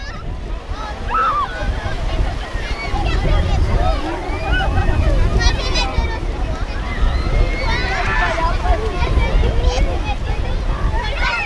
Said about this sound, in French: Les vagues, le vent, le rire des enfants, pas de doute, nous sommes bien à la plage. Une plage des Becs à Saint-Hilaire-de-Riez en Vendée qui était réservée mercredi rien que pour les enfants.